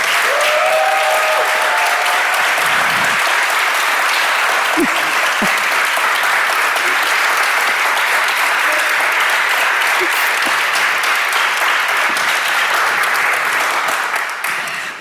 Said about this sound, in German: Und bitte einmal großen Applaus für Sabrina Setlow.